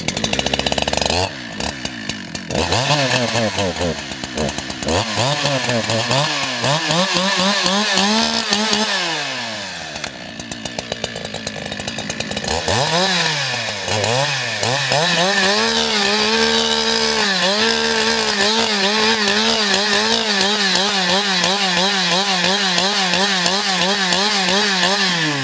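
A chainsaw roars for the whole stretch, its engine pitch rising and dropping as it bites into wood, easing briefly midway before revving back into a steady, loud cut.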